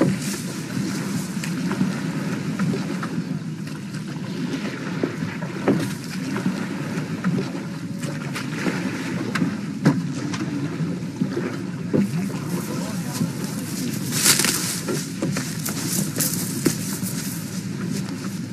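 boat moving on water

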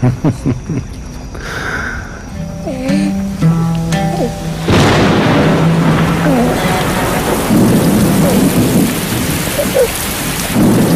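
rain

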